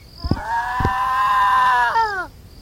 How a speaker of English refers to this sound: As he approached Anmar's home, he heard a bone-chilling screech.